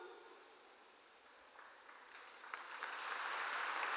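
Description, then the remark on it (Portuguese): A crowd of people starts clapping, faint and scattered at first, then swelling into dense, steady applause, with no one speaking over it. “Olha aqui, se nós aplaudimos, nós contribuímos com a unidade.”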